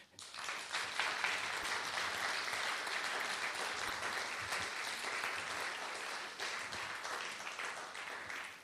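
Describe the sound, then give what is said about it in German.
An audience applauds steadily for several seconds, a dense, even wash of many hands clapping at a constant loudness, with no voices rising above it. “Ja, also noch einmal ein herzliches Danke und vielleicht auch noch mal einen Applaus.”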